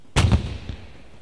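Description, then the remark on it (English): A heavy cannon blast from a big gun on a steamboat on the river about a mile off: a sudden booming crack followed by a quick second thump, then a long low rumbling echo that fades, with a faint later knock. “The noise was from a big gun on the steamboat.”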